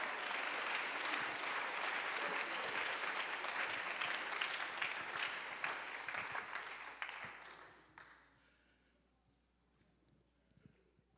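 An audience claps their hands unto the Lord in a dense, steady burst of applause for about eight seconds, then the clapping thins out and fades to near silence.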